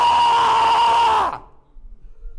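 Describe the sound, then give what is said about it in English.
A voice imitates a person screeching in the middle of a downtown street: a loud, sustained, shrill screech held steadily for just over a second, then cutting off abruptly into quiet. “you know what people do like in downtown areas when they're just like screeching in the middle of the street and walking down the street for no reason?”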